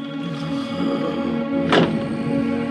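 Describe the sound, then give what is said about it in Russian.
A single muffled thunk, as a bedroom door in a clergyman's house in Iping is opened and locked in the quiet before dawn, lands about two-thirds through over a steady low hum, with no talking. “В предрассветной тишине ей показалось, что кто-то открыл и запер дверь их спальни.”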